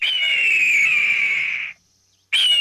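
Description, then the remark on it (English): A red-tailed hawk gives a loud, raspy, high scream that slowly slurs downward for nearly two seconds, then a second harsh scream begins after a short silence. “Watch and listen for red-tailed hawks all year and enjoy the wonderful wildness they bring to our region.”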